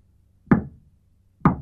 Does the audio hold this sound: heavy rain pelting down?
no